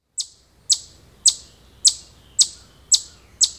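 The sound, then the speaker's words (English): A chipmunk in the woods makes a loud, sharp chipping call seven times at a steady, brisk rhythm, each bright chip ringing out clearly against a quiet background. “Many people figure it is one of the woodland birds, but it is really a chipmunk.”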